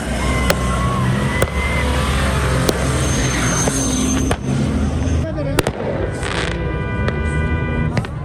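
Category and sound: sound effect, fireworks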